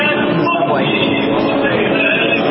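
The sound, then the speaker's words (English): A loud, steady roar fills the busy underground Union Square subway station in New York on a Monday night, the rumble of a train blending with a dense murmur of crowd voices throughout. “Monday night in the Union Square Station, members of the Opera Collective did some amazing things without knowing it.”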